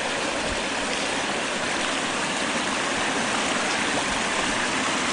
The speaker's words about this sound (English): The creek goes all the way over there and comes down, except it's frozen. There's where it comes down through the waterfalls.